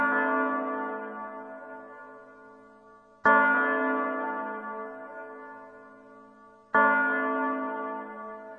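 A clock bell strikes at midnight, slowly, three deep resonant tolls about three seconds apart, each ringing out and fading gradually before the next. No voices.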